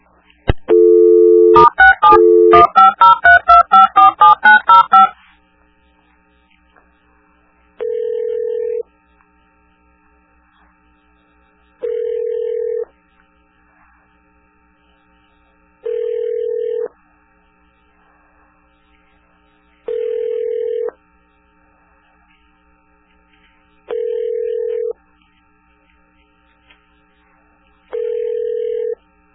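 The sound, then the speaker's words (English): A quick burst of touch-tone dialing beeps for extension 1800, then a phone line ringing back in steady, evenly spaced rings, six of them, clear with silence between. “I was trying to get a hold of extension 1800.”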